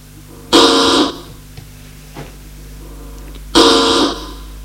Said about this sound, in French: La sonnerie de l'interphone.